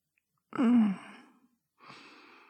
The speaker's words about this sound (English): I love resting my head on your chest like that. It's so calming to have you hold me and hear your breathing settle and slow down.